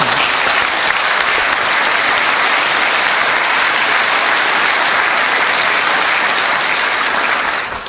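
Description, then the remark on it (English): Steady, loud applause from a large audience at a Drupal talk, thanking the thousands of people who support Drupal in the forums and write documentation, a dense hiss of many hands clapping that holds evenly for about eight seconds before easing slightly at the end. “So maybe another applause for that.”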